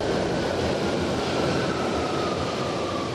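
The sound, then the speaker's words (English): A London Underground subway train rumbles steadily and loudly throughout. It makes a dense, continuous roar with a faint high whine gliding across it, unbroken, with no voices. “This is the rumbling noise of the train.”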